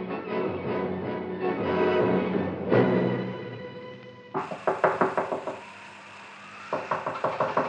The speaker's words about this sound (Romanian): Dar peste vreo jumătate de ceas, bătăi grăbite și desnădăjduite răsunau în ușa colibii unchiului Tom.